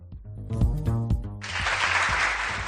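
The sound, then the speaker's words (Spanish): A short burst of tonal, musical sound gives way to steady, dense applause for the departure of the Rally Solidario del Sahara Adventure from Valladolid toward Morocco, many hands clapping in a continuous hiss that holds at an even level to the end. “Y este aplauso porque el Rally Solidario del Sahara Adventure parte hoy desde Valladolid hacia Marruecos para recorrer 5.000 kilómetros y donar material humanitario y deportivo.”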